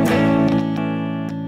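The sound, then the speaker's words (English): A distorted electric guitar, played through one selected pickup, rings out with sustained, bright chords, restruck a few times in a loose rhythm, loud with no talking over it. “I think the distortion responds to the high end a bit better.”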